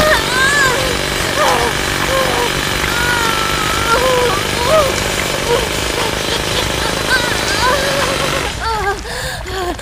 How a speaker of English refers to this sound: Why punch the safe? That is so cliché. I'll drill it with my boobs instead.